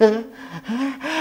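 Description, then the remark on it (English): A sneeze builds from a few breathy, voiced gasps into a short burst, three quick pulses in about a second, fairly loud, with no one talking over it. “Bless you.”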